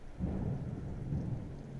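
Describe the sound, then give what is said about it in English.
Heavy rain pours down steadily outside, a dense continuous hiss with a low, rumbling undertone and no voices. “You having fun staring at the rain”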